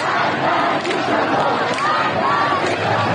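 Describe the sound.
A dense street crowd of protesters shouts and chants slogans together in protest over the death of Mahsa Amini, voices overlapping in a loud, continuous roar with rising calls cutting through the steady babble.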